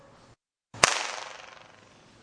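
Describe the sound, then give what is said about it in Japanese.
A single sharp hand clap beneath the ceiling at the Naki-ryu (crying dragon) spot of Zenkoji Temple is followed by a rapid fluttering echo, a multiple-reflection effect said to sound like a dragon's cry: a buzzing, ringing reverberation that warbles and slowly fades over about a second and a half. “はい、この音が、多重反響現象の一種残響現象、で龍の鳴き声と言われる音です。”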